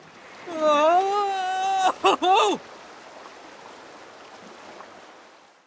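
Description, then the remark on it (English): Rushing river rapids make a steady, hissing roar that fills the whole stretch, while a loud, wavering scream from a person riding the rapids in a wooden boat rises over the water for a couple of seconds early on. “Could you hear the rapids over the noise of your screaming?”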